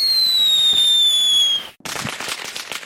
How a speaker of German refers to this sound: Das heißt, während 20 Minuten werden 2000 Feuerwerkskörper gezündet.